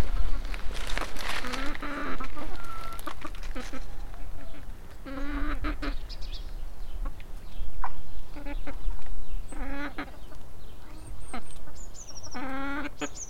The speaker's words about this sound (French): Et aussi parce que c'est le poulailler de un peu tout le village. Voilà la famille poule. Poulet plutôt. Ouais. C'est des poulets.